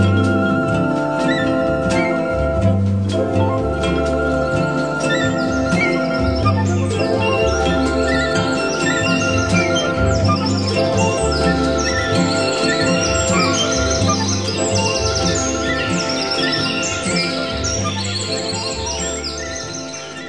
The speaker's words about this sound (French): il mange, il dort, pense qu'il a mangé, chanté, qu'il va dormir, chanter encore. Vous admettez le rossignol.